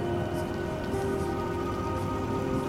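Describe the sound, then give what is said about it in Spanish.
A thin, continuous gurgle of water from a nearly dry old city fountain of broken stone, an uneven bubbling trickle that runs steadily over a faint, constant low hum, with no voices. “El gorgoteo de una fuente casi seca.”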